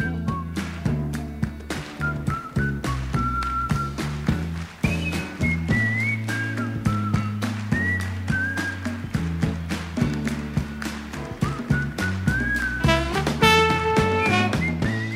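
A blues instrumental plays steadily throughout, with a rhythmic strummed guitar groove, a walking low end, and a bright high melody line gliding over the top, with no voices.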